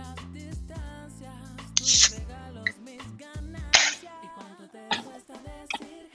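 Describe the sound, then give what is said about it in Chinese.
A beer can is cracked open, with short sharp pops and fizzy hisses bursting out a couple of times over a steady low background hum. “给大家表演一个开啤酒的声音，不知道这个话筒录进去是什么效果。”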